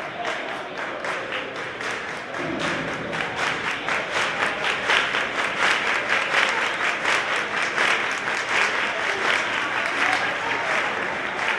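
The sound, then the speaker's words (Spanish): The crowd at the Estadio Ciudad de Lucena applauds steadily as the match begins, supporting the home team: dense overlapping claps forming a loud, continuous wash with a faint murmur of voices underneath, sustained without a break for the whole stretch. “Pero quien muy pronto cambió los aplausos por lo siguiente.”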